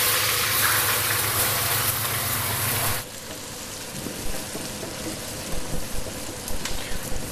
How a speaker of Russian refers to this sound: Так, поставил лук жариться.